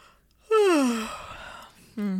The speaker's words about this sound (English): Sorry, I didn't mean to yawn that moment.